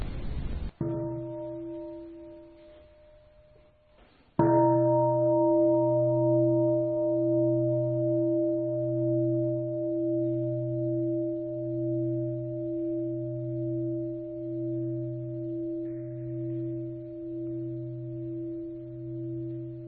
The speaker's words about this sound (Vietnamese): Và tôi thỉnh ba tiếng chuông và các vị thử thực tập đâu 3 phút cho chúng ta bắt đầu thử làm quen với phương pháp này.